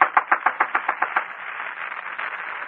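A rapid, even series of about ten sharp knocks on an apartment door, lasting just over a second, followed by a steady background hiss with no voices.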